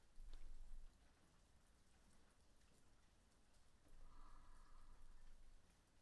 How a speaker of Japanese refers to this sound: 雨止みそうにありませんね。